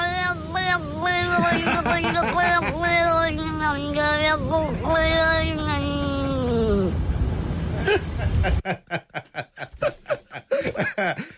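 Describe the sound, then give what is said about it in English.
A cat in a video meows in a long run of drawn-out, warbling yowls with rising and falling pitch, almost like chattering speech in a strong Cork accent, then gives way to a few seconds of rapid scratchy tapping noises. “Now, this is actually a cat. It's a video of a cat.”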